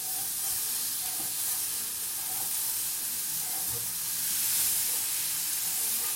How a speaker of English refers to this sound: Right, now, so now I've done that, I'm going to take my beef stock and I'm going to gradually pour it into this pan. But what I'm going to do is I'm going to whisk it while I pour it, so that it makes a gravy.